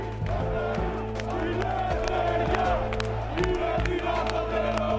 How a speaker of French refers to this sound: Nous sommes au milieu du cortège anarchiste. Certains manifestants cagoulés sont très jeunes. Les forces de police sont très nombreuses. Les manifestants s'approchent du Parlement.